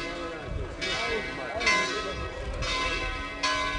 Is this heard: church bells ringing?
yes